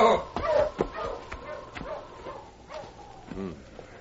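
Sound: sled dog team barking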